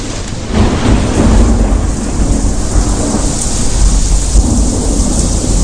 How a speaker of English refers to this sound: You can hear it's raining in the studio because lightning just struck.